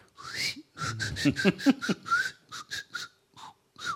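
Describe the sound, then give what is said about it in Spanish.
Breathy human whistling by the inhabitants of the island of Tracoda, who whistle instead of speaking, in a rapid string of short bursts and glides, rising and falling like whistled speech, with brief pauses between phrases and no talking. “Bueno, a poco de llegar a Tracoda se escuchaban los chiflidos de los habitantes, y eso es todo lo que dice John de Mandeville de esta isla.”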